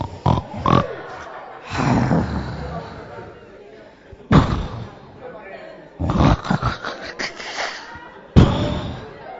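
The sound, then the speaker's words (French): A voice imitates snoring: a series of raspy, snorting breaths in uneven bursts, several loud and abrupt, with rougher grunting sounds in between. “Et puis tu commences par ronfler.”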